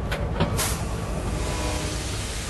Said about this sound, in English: It's dark as Nutter's train heads west.